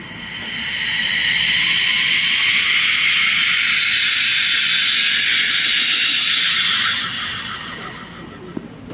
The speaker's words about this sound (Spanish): Instrumento también muy interesante de los mexicas, se le conoce como silbato de la muerte.